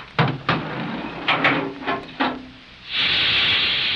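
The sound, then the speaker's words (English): An elevator carrying riders descends fast: a series of six or seven irregular mechanical clunks and knocks, then a loud, steady hydraulic or compressed-air hiss that sets in and holds to the end. “That's more like a hydraulic to me, or compressed air.”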